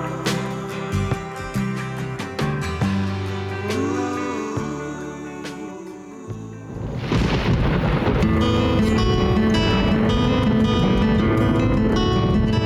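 Soft tonal music gives way midway to a loud crack of thunder, followed by a steady roar of heavy rain and rumbling that continues to the end.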